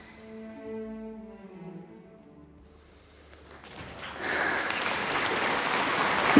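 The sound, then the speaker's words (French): A sustained piano note and its harmonics fade out, then a standing concert audience breaks into loud, dense applause for mezzo-soprano Pauline Garcia in December 1838, swelling and continuing steadily to the end. “Ils sont debout. Ils applaudissent.”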